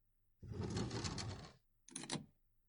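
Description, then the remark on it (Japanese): A key works in a door lock as the door is locked before the key is returned: about a second of rattling, scraping metal, then a brief pause and a short, sharp clunk as the bolt turns. “じゃ、あとは鍵を閉めて返すだけだね。”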